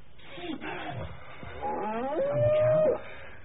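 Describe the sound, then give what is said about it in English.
A large beast lets out a loud, drawn-out bellow like a buffalo, starting as a deep rumbling roar and rising into a long, strained, moaning tone before cutting off. “Like a ruddy buffalo.”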